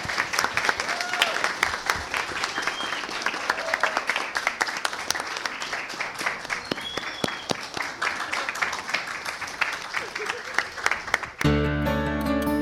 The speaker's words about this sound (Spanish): Si hay alguien en alguna región de Chile que no cree que estoy en el Liceo de Machalí, ¿podrían aplaudir, por favor, para que me crean?